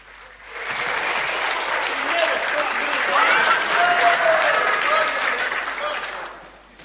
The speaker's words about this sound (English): it's my first time up and they clapped me.